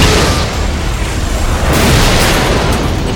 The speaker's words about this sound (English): The pilot of the closest chopper saw the grenade flying toward him and twisted the metal bird to the right and up, trying to dodge the explosion. The grenade flew up just below the belly of the soaring red chopper and went off.